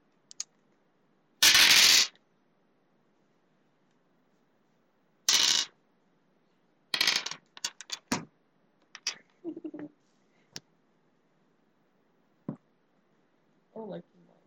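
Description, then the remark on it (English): Dice clatter sharply across a hard surface in several separate throws: a loud rattle early on, then a scattered run of smaller clicks and tumbles, with quieter rolls near the end. “Yeah, try to throw less dice because that's going to be heard really obnoxiously.”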